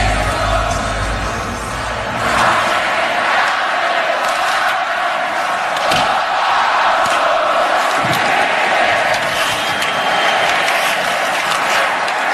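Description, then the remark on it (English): A loud, sustained roar of Oilers hockey fans cheering in the arena in Edmonton during Game 4, a dense wall of crowd noise with whoops and shouts rising and swelling throughout, no clear speech. “That was Oilers fans on Edmonton ice last Saturday, Game 4.”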